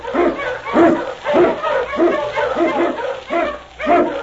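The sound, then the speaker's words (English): A pack of husky sled dogs led by King, an Eskimo lead dog, barks and yelps in a loud, overlapping chorus while blazing a trail through storm and snow in the Yukon, the howling bursts rising and falling rapidly with no pause between them. “On King! On you Huskies!”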